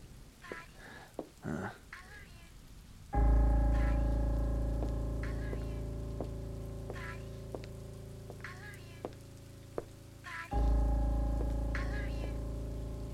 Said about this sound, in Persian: لاستیک چرا خوابیده تو این بارون؟ منتظر میشم تا بارون بند بیاد.